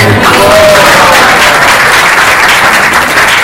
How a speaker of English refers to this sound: Please, one more round of applause.